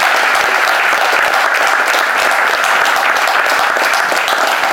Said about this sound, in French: Très heureuse d'être là ce soir pour les 40 ans de VFM. Je pense qu'on peut les applaudir très très fort pour cette soirée déjà.